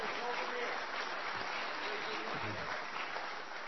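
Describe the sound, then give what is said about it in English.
An audience at a speech claps steadily throughout, a dense, even wash of many hands that neither builds nor fades over the few seconds heard. “They weren't clapping nearly quickly enough for you.”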